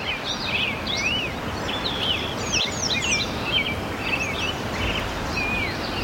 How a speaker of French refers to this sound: Là, on entend les oiseaux et derrière la rivière, c'est la rivière qui coule.